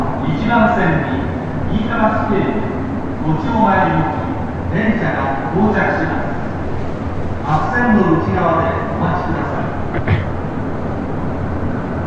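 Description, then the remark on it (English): A train station's platform arrival melody plays for a train arriving at platform 1, a bright repeating tune of chiming tones over a steady rumble of background noise and echoing voices. “That's the sound for the train that you hear. It's the arrival train.”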